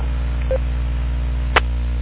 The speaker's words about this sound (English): Most of the time when you hear that echo link beep or whatever it is, most of the time it's him hooked up.